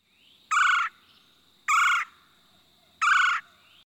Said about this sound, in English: Frogs calling at Pike's Pond.